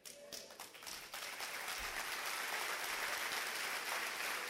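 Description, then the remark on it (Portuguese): An audience breaks into applause for God, the clapping starting a little scattered and quickly swelling into a dense, steady roar of many hands that holds for several seconds. “Vocês devem aplaudir a Deus e celebrar seu nome.”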